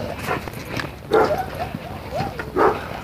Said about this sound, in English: There comes a dog walker. Black lab. Good looking pooch.